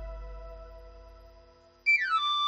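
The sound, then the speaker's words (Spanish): A knife grinder's pan-pipe whistle in a radio advert for El Afilador orujo liqueur from Galicia: a quiet, steady humming tone gives way to a loud, bright run of high notes sliding quickly downward in a short melodic flourish. “Llega el afilador, tu momento del día.”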